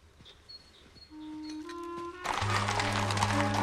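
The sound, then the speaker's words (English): A quiet stretch with a few faint clicks and whistling tones gives way to a loud, dense wash of street bustle as horses and carriages move along a busy street in London. “Worthing negotiates a busy street that's bustling with horses and carriages”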